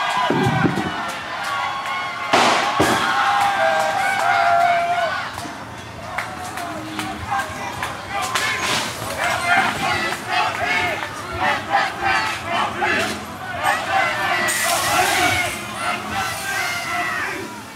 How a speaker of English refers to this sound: after this big round of tear gas, some started setting fire to police cars, and I recorded some of it. There's bullet sounds, like rubber bullets or tear gas, kind of like what we were hearing earlier. And there's 3 cars on fire. People are cheering.